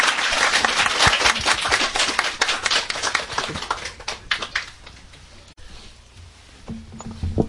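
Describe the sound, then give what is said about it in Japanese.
A roomful of people applauds to welcome a speaker about to give a testimony, a dense burst of clapping that stays strong for several seconds before thinning into scattered claps and dying away. “どうぞ拍手でお迎えください。”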